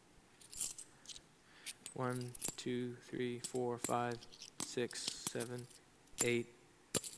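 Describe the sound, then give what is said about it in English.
Small metal coins clink sharply, one at a time in an irregular rhythm, while a voice counts from one to nine between the clinks. “To what level of frantic desperation was that widow driven when she realized that she only had 9 out of her 10 silver coins?”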